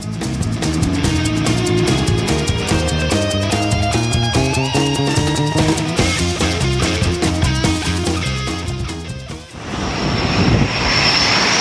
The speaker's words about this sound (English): An F-A-18 Hornet fighter jet there landing on the USS George H.W. Bush in the Arabian Gulf last month. Part of the campaign underway right now against the so-called the self-described Islamic State, or ISIS.